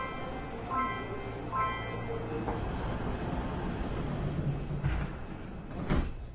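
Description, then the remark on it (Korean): Subway train doors close after a short series of warning beeps, followed by a couple of heavy thuds as the train rumbles steadily into motion, loud throughout. “출입문이 닫힙니다.”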